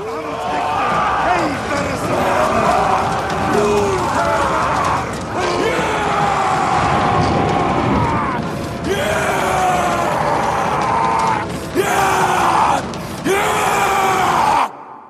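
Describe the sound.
In a film scene, Vikings doing a warrior dance around a bonfire at night before a raid chant in deep, rhythmic unison, their voices swelling into loud, ragged roars and shouts, with actor Alexander Skarsgård breaking into a long howl near the end before the sound cuts off.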